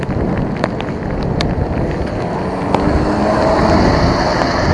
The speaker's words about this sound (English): It's really raining here.